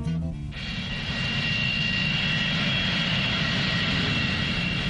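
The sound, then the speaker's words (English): A steady, loud airplane engine roar fills the whole stretch, a dense continuous drone with a faint high whine on top. “Do you like airplanes?”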